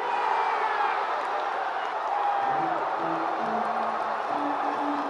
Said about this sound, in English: And indeed, when Uehara stood on the mound for the final out, the Red Sox fans, having not witnessed a World Series win at home in 95 years, were ready to cheer their heads off